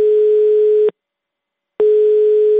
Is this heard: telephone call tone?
yes